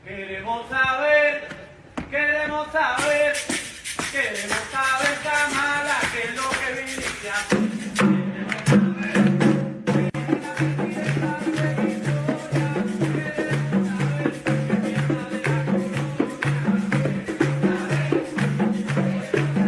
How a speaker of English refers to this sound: And so watch what happens when she finds out that actually the people chanting are not celebrating her, they're protesting her.